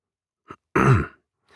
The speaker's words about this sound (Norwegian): Læreren kom inn igjen, gikk fram til tavla og kremta.